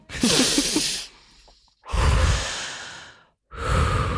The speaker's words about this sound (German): Einmal kurz durchatmen. Das sagst du sonst immer zu mir. Jetzt bist du mal dran.